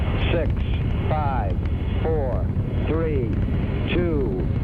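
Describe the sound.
A deep, continuous roar of Saturn V rocket engines igniting at the Apollo 11 launch rumbles loudly and steadily throughout, with a distorted radio voice speaking in short bursts over the din.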